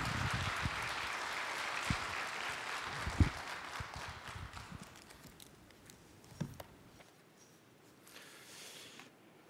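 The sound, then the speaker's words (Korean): A crowd applauds warmly to welcome a missionary coming up to preach, a dense patter of many hands clapping that gradually thins out and fades over several seconds, leaving only a few scattered claps and quiet. “우리 큰 박수로 우리 귀한 선교사님 환영하겠습니다.”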